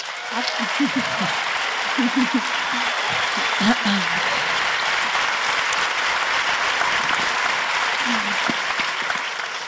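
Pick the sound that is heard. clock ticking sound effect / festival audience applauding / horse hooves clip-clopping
festival audience applauding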